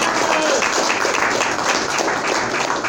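Steady applause from an audience, many hands clapping at once in a dense, even wash of sound that stays loud throughout with no voices standing out.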